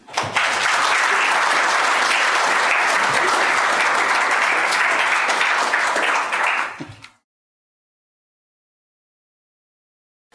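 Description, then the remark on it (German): A crowd claps steadily in dense, even applause for about seven seconds, then it cuts off abruptly into silence. “So, ich denke, da haben wir schon mal einen kleinen Beifall verdient.”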